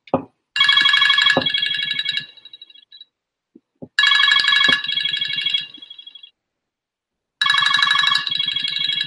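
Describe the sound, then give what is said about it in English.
An alarm clock rings in three loud, buzzy electronic bursts, each lasting about a second and a half, separated by short silences. The ringing is clear, with no voices. “That's an alarm clock.”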